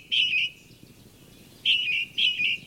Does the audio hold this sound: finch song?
yes